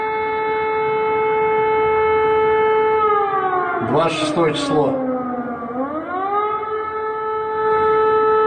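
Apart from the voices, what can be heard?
siren wailing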